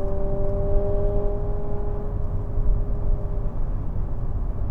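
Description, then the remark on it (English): A car engine drones steadily under heavy low rumble, its hum holding an even pitch before thinning out near the end; no voices. “Oh, maybe you can't hear that engine, but man, it's a beautiful thing, people.”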